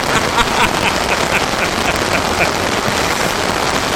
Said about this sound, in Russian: Да еще дождь такой, чтобы ливень обязательно, чтобы гроза.